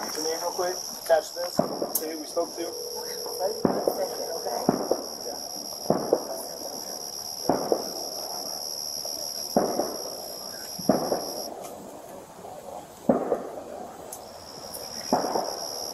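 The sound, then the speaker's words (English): Repeated sharp pops of fireworks go off at irregular intervals on July 6th, over a steady high-pitched insect-like drone, with faint voices murmuring in the background. “Gunshots or fireworks? Oh, yeah. It was July 6th.”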